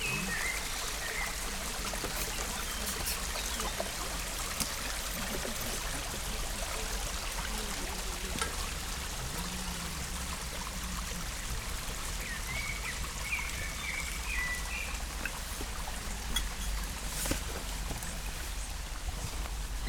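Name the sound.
small river stream flowing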